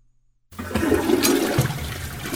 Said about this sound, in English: Flush it for me, please.